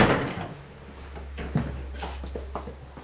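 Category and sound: household object, door opening and closing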